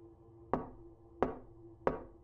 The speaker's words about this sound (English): One day, I was in my office writing, and I hear a knock at the door.